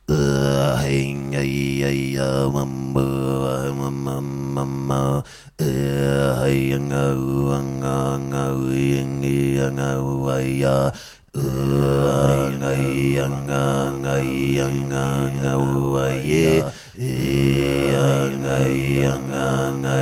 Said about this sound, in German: Also das ist jetzt ohne Effekt, das ist wirklich meine echte Stimme. Es klingt, als würde ich rülpsen, aber es ist wirklich, es ist Kehlkopfgeräusche.